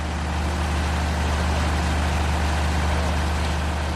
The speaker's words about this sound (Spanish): si seguimos por ese mismo pasillo te encuentras con la sala de máquinas y el tremendo sonido del generador.